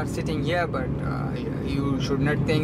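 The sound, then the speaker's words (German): Steady low rumble of a car cabin on the move with a driver at the wheel, the engine and road noise droning evenly throughout while someone talks over it. “Wir sitzen hier nebeneinander ganz normal im Auto, aber glaub nicht, dass wir uns deshalb entspannen können.”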